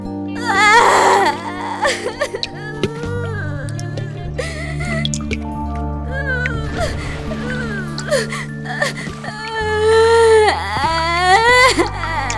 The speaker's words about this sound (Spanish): Pero siguió llorando igual, derramando litros de lágrimas hasta que había una gran alberca a su alrededor que alcanzaba la mitad del pasadizo.